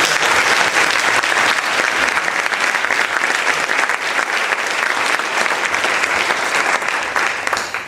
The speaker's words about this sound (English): And I think that all of us now entering 2021, we should give ourselves a round of applause.